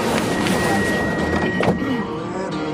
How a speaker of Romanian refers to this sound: Atenție! Se închid ușile.